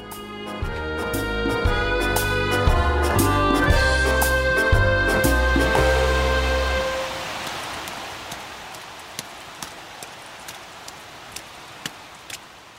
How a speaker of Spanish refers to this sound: Ay, ¿cómo se le ocurre salir sin paraguas con este tiempo? La aplicación del teléfono no daba lluvia.